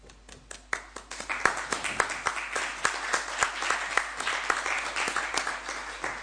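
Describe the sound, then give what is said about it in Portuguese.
An audience applauds at the end of a panel of talks, many hands clapping in a dense, irregular patter with sharp individual claps standing out, holding at a fairly even moderate volume throughout. “Lo aplaudimos agora ao final, pero porque non temos costume de aplaudir nas mesas a cada un dos relatores ou relatoras.”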